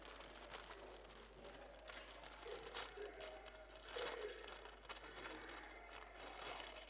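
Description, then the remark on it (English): Wrapping paper is torn and crumpled as a present is unwrapped, a steady run of crinkly rustles and short ripping bursts over several seconds, with no one speaking. “You can rip it if you like. I don't need the paper back.”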